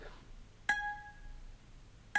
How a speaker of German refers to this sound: Ja, hier habe ich jetzt meinen Laptop und ihr hört, er wird erkannt im Kamerabild und ein Ton wird abgespielt.